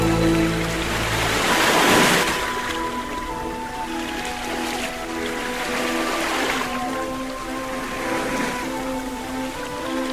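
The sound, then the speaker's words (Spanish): Ocean waves wash onto the shore in three broad, hissing surges, the loudest early on, each swelling and receding over a low, sustained musical drone. “solo olas, muchas olas, que se rompen”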